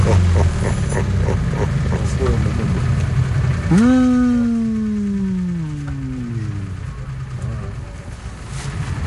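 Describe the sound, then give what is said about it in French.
A steady low motor rumble fills the scene, and midway a loud whining engine tone swells sharply, then slowly glides downward as it fades back into the drone. “Enfin, heureusement, il reste le bruit des portables et des moteurs.”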